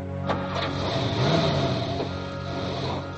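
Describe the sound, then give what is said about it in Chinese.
A car engine revs, its tone climbing as the car is driven out of a parking lot and pulls away, with a couple of brief mechanical clicks near the start and no voices. “等高淳手忙脚乱地开出自己的车子，周鑫乘坐的出租车已经汇入了大路上滚滚向前的车流之中。”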